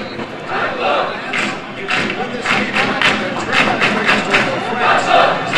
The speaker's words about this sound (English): The whistle blows and a flurry of applause greets the start of the match.